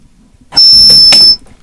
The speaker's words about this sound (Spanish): Kakofoniak! Eta gaur ere kakofoniak dauzkagu bertxokon ondoko elizatik entzun ditzakazuen. Danbor soinu eta guzti. Santagetaren antza dauka